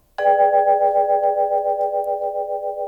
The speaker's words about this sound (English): Here are some beautiful melodic sounds recorded in high fidelity. Vibraphone.